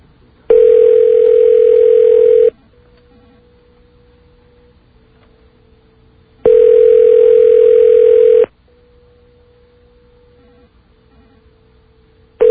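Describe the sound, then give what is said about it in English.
A telephone ringback tone sounds while a call rings through to a fax machine: two loud, steady, mid-pitched buzzing rings about two seconds long, each followed by a quiet pause, and a third ring begins as it ends. “This is presumably another fax machine.”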